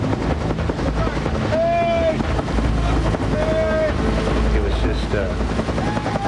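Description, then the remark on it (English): A helicopter's rotor thuds heavily and continuously, loud overhead, as it searches for men in a stormy sea amid fog and rain, with rushing wind noise beneath it and a few brief high whistling tones cutting through. “We heard the heavy drumbeat, the sound of a helicopter.”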